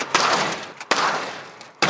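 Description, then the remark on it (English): A door slams shut three times in a row, each loud, sharp bang trailing off into a brief rumbling decay before the next hit, with no voices. “We tried slamming it over and over again.”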